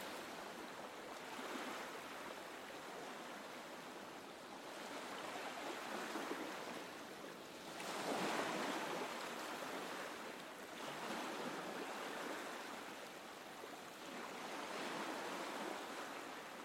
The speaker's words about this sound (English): tropical beach beneath the sun. With the sound of the breeze rustling the trees and the sand around you.